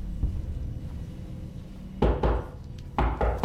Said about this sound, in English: Sitting on his bed, long hair tied back, Joe looks around, disturbed by the knocking. In his dressing gown, he gets up and heads for the front door.